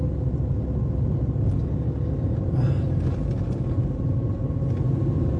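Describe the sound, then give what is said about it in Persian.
A car engine runs steadily, a deep, continuous rumble that stays loud and even throughout with no break. No one speaks. “بابا جان، سوار من که نمیشن، سوار ماشین میشن.”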